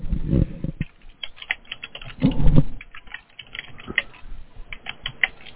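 Rapid, irregular clicking of keys on a computer keyboard, fairly clear, with a couple of heavier bursts of thumping keystrokes and no voices.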